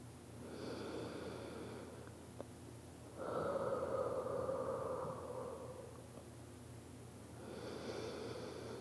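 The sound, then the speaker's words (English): Slow, heavy breathing, about three long breaths in a steady rhythm. The middle one is louder, with a raspy, slightly wheezing tone. No one speaks. “Just breathe a little bit more, okay? Let's keep breathing together.”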